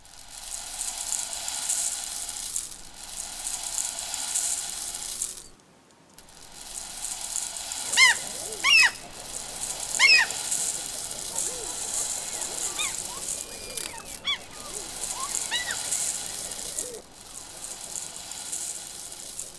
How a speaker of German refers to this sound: Ihr braucht dazu ein Küchensieb und Reis. Um die Wellen zu imitieren, schüttet ihr den Reis langsam in das Sieb. Das klingt dann so. Es ist ein schöner, lauer Sommerabend, an dem man am Strand neben einem Lagerfeuer sitzt und den Wellen lauscht.